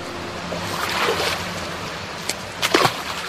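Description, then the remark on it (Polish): A steady rush of water fills the background, broken near the end by a few quick, sharp splashes of fish breaking the surface of a fish-breeding pond near Sieraków in Wielkopolska, Poland. “Szum wody i plusk ryb przypominają, że Wigilia i Święta Bożego Narodzenia już niedługo.”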